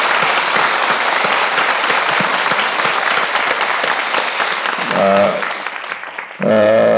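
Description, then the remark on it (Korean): A church audience at Yewon Church bursts into sustained, dense applause given in thanks and glory to God, steady for about five seconds, then a voice briefly speaks over the fading claps before speaking again at the end. “이곳까지 에베네셀의 하나님 앞에 중심을 다해서 최고의 감사와 영광의 박수 올려드립시다.”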